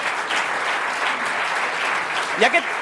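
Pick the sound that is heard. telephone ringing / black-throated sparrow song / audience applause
audience applause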